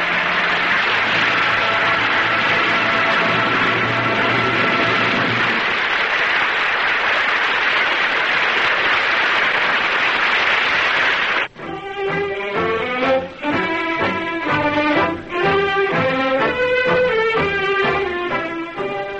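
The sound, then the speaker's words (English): A large theater audience applauds the performance of Francho Tone and the cast on the Cavalcade of America radio broadcast in a dense, steady wash of clapping for about eleven seconds, then orchestral music cuts in and plays loudly over it. “I'm sure our radio listeners join the audience in the theater tonight applauding the performance of Francho Tone and the others in tonight's cast on the Cavalcade of America.”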